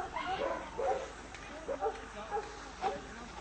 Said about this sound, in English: Our investigators also found caged dogs in these backyard farms.